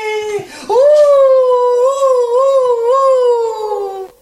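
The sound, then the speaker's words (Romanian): A young wolf cub lets out a single long, high howl, starting with a short yelp that glides upward, then holding a loud, slightly wavering note for several seconds before trailing off. “Când aude clopotele de biserică, șede și urlă în două labe.”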